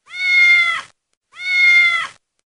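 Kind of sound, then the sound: animal, cat meowing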